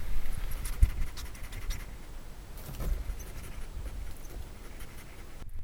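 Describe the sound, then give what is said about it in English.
A female guinea pig sniffs at the recorder, with soft, irregular puffs of breath and faint scratchy rustling. It's quiet and intimate, with no talking. “Don't know if you can hear her sniffing, but she's sniffing at the recorder.”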